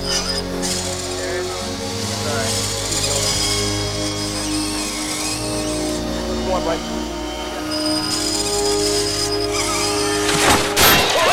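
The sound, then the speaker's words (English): A heavy cannon barrel from the original Zephyr, falling after its winch rope snaps, crashes into the ship's wooden wreckage on the seabed near the end, a sudden loud splintering impact that rises over a steady bed of droning, tonal music. “It crashes into the wooden wreckage of the ship on the seabed.”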